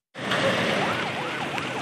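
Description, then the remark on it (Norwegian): A wailing siren rises and falls in repeated sweeps over a steady wash of engine and road noise, as freshly washed white vehicles with blue lights drive out from the simple airport in Diffa, Niger, under a high, burning sun. “Nyvaskede hvite biler med blålys kjører ut fra den enkle flyplassen i Diffa i Niger.”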